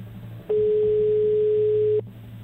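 A single steady telephone ringback tone sounds over a phone line as Radio Olé places a live call, one clear beep lasting about a second and a half, with faint line hum before and after.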